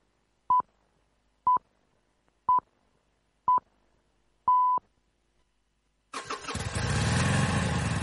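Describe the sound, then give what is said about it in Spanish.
Five evenly spaced electronic beeps, the last held longer, then a motorcycle engine fires up abruptly and roars loudly, rumbling steadily to the end. “Moto.”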